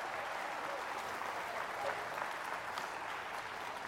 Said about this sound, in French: Quelqu'un applaudit!